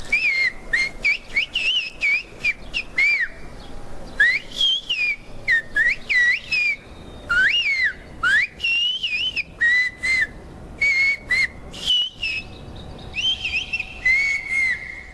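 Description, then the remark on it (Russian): A person whistles a Yeats poem rendered into a whistled language, in a phrased, speech-like pattern, sliding pitches in quick bursts separated by short pauses. Loud and continuous for the whole stretch, with no talking; a sample heard at the Onassis Center exhibition "Gods and Mortals of Olympus". “Вот образец языка свиста, который можно услышать в центре Анасиса на выставке «Боги и смертные Олимпа».”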